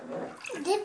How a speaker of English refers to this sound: Hello. Are you in the water? Are you taking a bath?